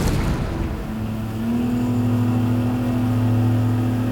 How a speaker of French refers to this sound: Dans le vrombissement du moteur, chahuté par les vagues,